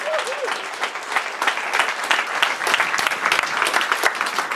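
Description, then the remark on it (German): Sustained applause from a sizable audience for the Open Gestures presentation, a dense wash of many hands clapping steadily at fairly loud level, with a brief faint whistle-like tone at the start. “Danke euch für Open Gestures. Euer Applaus.”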